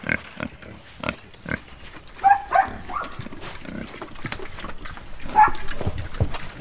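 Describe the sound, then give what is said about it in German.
Pigs grunt and snort at their morning feeding at 6:30 in Moisei, a small village in the Romanian Carpathians, in a steady scatter of short, rough bursts, with a few louder, higher-pitched grunts standing out; no one speaks. “selbst frühstückt, sind die Schweine dran. Morgens um 6:30 in Moisei, einem kleinen Dorf in den rumänischen Karpaten”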